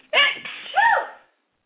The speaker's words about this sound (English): Excuse me. That was a I put the phone away from my mouth. Excuse me. Oh, thank you. She said, bless you. Thank you. You know, and I put the phone, like, away from my mouth. That must have been really loud. Sounded like it came from your toes.